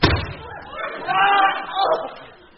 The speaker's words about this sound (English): Oh dear. Cuddles has slammed the door on my fingers. Never mind, they're only broken.